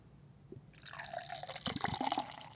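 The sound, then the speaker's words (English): Beer, a Coppertail hazy triple dry-hopped double IPA, splashes and glugs into a glass in an aggressive pour, starting softly and growing busier and brighter as the pour picks up, with no talking. “Roll that beautiful beer footage. Got a little bit aggressive with that pour, I think.”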